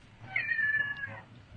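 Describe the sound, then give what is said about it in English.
A single drawn-out cat meow, clear, lasting about a second with a steady pitch before trailing off, set against faint low background noise. “Cat.”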